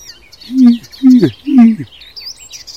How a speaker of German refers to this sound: Ich würde sagen, das war alles so von jedem Vogel ein bisschen eben. Das klang auf wie eine aufliegende Amsel so ein bisschen. das war doch mal eindeutig ein Rot-Milan.